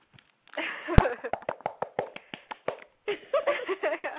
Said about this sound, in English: All that, like, fake applause.